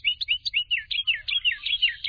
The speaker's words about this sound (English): Sometimes it seems that the smaller the bird, the bigger the voice. Some of the noisiest species in the Americas are the wrens, their loud chants and trills all out of proportion to the slightness of those slender bodies.